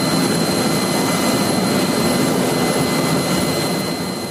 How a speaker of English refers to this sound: One of Australia's new multi-role helicopters lands smoothly on the deck of a warship off the New South Wales south coast.